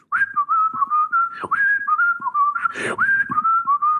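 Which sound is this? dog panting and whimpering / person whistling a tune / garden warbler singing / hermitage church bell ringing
person whistling a tune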